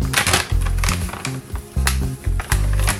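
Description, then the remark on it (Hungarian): A 3-in-1 dishwasher tablet is pulled from its package: irregular crinkling and rustling of plastic wrap in short, uneven bursts with dull low thumps underneath, fairly loud, and no talking. “Kiveszek egyet a csomagból.”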